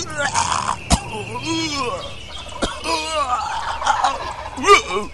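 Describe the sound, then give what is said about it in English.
A person mimics a turkey's gobble with a rapid, warbling, throaty rattle, repeated in several loud bursts over a few seconds, broken by a couple of sharp clicks, during turkey-hunting time. “I told him to try that collar before he got out here. Now here it is, time to hunt turkeys, goblin time”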